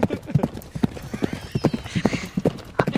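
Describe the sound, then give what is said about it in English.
Horse hooves clip-clop from a sound effect machine in a steady, brisk rhythm, about three knocks per second, clear, with a faint high whinny-like squeal drifting in briefly midway. “You've got your sound effect machine.”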